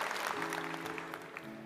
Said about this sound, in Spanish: Hoy estoy aplaudiendo a los voluntarios de esta iglesia porque no sería posible Lakewood sin ustedes. Los saludo y los aplaudo.